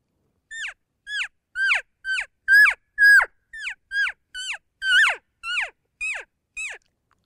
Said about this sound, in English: Again, it's that short, high-pitched calf mew, but very intense. There's a lot of emotion into it, signifying that I'm scared, I'm desperate. You've got to put that into it. And this is what the lost calf cry sounds like.